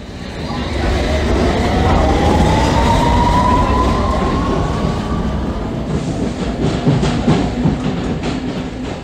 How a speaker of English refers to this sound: Mind the Gap between the train and the platform. This is a Hammersmith and City Line train to Hammersmith. The next station is Royal Oak.